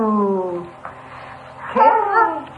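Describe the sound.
A young child's voice imitates a dog's woof while looking at a picture book with their mother, a drawn-out sliding call followed by a brighter, louder bark-like yelp.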